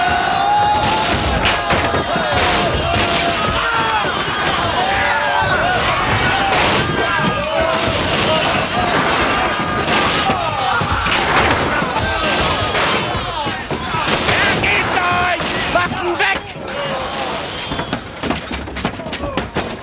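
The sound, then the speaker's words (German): A loud, unbroken sea-battle din: rapid gunfire, cannonballs crashing into ship hulls, toppling masts and trembling planks pile up over a mass of shouting and shrill screaming voices, easing only slightly near the end. “Schiffsrümpfen krachende Kanonenkugeln, umstürzende Masten, sich verhedderndes Tauwerk, grinsende, rauchgeschwärzte Gesichter, gellende Schreie und erbebende Planken.”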